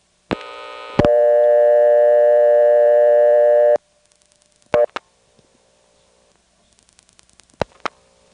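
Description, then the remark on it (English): A single telephone ring burst on a heavily loaded line: a loud, steady, buzzy tone lasting about three seconds, thick with harmonics. Sharp clicks and faint crackles follow on a quiet line. “Now here's one that is really, really on a loaded down line.”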